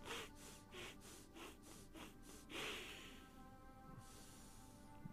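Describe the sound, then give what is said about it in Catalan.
A person does a connected breathing exercise through the nose: a quick series of sharp nasal breaths, about seven in a steady rhythm, followed by one longer, fuller breath, fairly loud with no talking. “En farem 4 respiracions curtes, una llarga sempre pel nas.”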